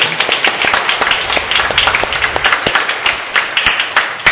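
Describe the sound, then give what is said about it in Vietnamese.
A church audience breaks into loud, sustained applause celebrating the feast of Saint Cecilia and the 25th anniversary of the Cecilia choirs, many hands clapping in a dense, crackling wash with sharp individual claps standing out throughout, no voices heard. “Tôi thay mặt cho Hội đồng Giáo xứ, cho cộng đoàn phụng vụ chúc mừng ngày kỷ niệm 25 thành lập của các đoàn Cecilia hát lễ hôm nay bằng một tràng vỗ tay thật lớn.”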